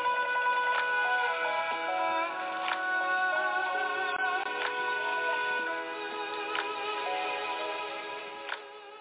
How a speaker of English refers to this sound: Ever think of that special someone and the phone rings and it's dumb?